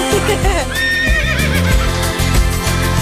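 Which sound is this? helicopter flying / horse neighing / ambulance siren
horse neighing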